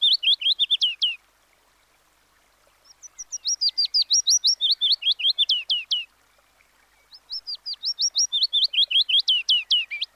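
A willow warbler sings three phrases of clear, high whistled notes, each run of about a dozen notes sliding downward in pitch, separated by brief pauses, with no other sounds.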